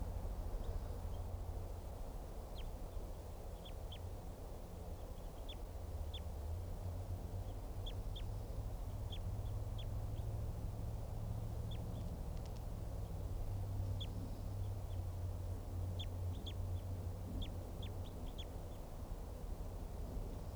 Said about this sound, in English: Wild bird. Stop. Just recorded that wild bird and collected the bird. It'll be JGG 429.